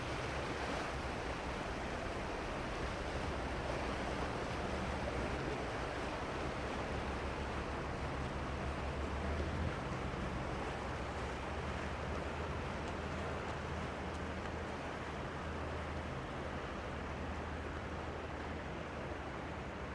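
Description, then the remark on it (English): Vaporetto water buses churn past on a canal in the darkness, their engines a steady low rumble beneath continuous sloshing and splashing water, with a breezy hiss throughout and no voices. “The vaporettos, or water buses, pass us by as we stand bewildered in the darkness.”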